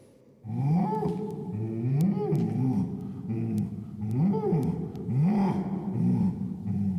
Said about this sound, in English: What we're experiencing in this part of the cave is a cacophony of echoes, each one lasting long enough to merge with the next and create a kind of wall of sound.